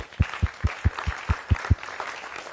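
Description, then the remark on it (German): A church audience applauds the children at a service, clapping together in a steady, even rhythm of about eight beats over a wash of scattered hand claps, then the clapping stops and only a faint murmur remains. “Und deswegen für euch besonders Kinder, die ihr sonst euer eigenes Programm habt, ihr bekommt von uns als Gemeinde auch mal einen Applaus an dieser Stelle.”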